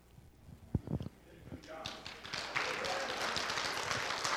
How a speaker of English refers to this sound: Yeah, she gets all the applause.